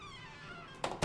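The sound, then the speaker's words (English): An elevator door swings shut with two quick thuds, the second a bit louder as it settles into the frame, following a faint sustained tonal hum. “They share a wave, and Federico lets the door close.”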